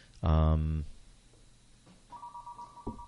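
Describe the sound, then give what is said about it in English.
A telephone rings: a loud, buzzy electronic burst followed a moment later by a softer, steady single tone that cuts off abruptly. “I have no idea why that's ringing.”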